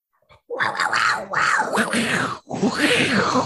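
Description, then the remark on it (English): A man imitates a jaguar's growl with his voice while picking the Jaguars football team, in three long, rough, roaring bursts, each loud and gravelly, separated by brief pauses. “Man, the cat noises get better every time.”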